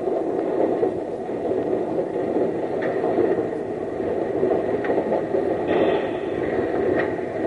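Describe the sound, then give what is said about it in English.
A locomotive rumbles steadily as it eases up and couples onto a train car, with a few light metallic clanks cutting through the continuous, fairly loud mechanical noise. “If I hit that first car too hard, I'm liable to wreck us all.”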